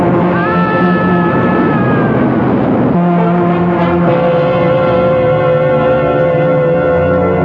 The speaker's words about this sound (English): Look out. The train.